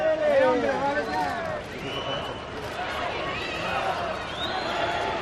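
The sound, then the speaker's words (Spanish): A large outdoor crowd at a public parade in Spain boos loudly at Sánchez, who is accompanied by the king, with overlapping shouts and shrill whistles rising and falling in a steady, continuous din. “Sonó un poco a eso, sonó a Sánchez ha utilizado al rey de parapeto ante los abucheos del público, aunque en Moncloa lo negaron y dijeron que eso era de malpensados.”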